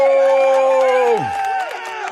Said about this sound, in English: I tell you what, I every time I bring you on, the crowd just, I mean, they can't even control themselves. They can't contain themselves.